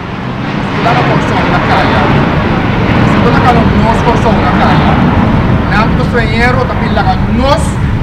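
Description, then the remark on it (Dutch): A loud, steady engine roar, like an airplane passing low overhead, fills the whole stretch while voices talk and shout beneath it. “En die mening kan zelfs door een vliegtuig niet overstemd worden.”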